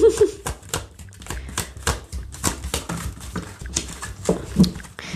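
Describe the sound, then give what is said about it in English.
A deck of cards is shuffled, producing a steady run of crisp, papery clicks and flutters that rise and fall in bursts over several seconds, with faint murmurs in the background. “Let's shuffle these one more time.”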